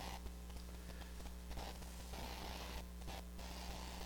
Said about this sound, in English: Sound of pages turning is music to my ears. Let's all find it. 1 Corinthians 6, 19.